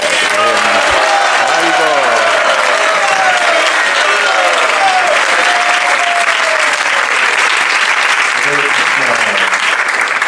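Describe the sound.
A crowd claps loudly and steadily for about ten seconds, a dense, even roar of applause with a few voices calling out beneath it.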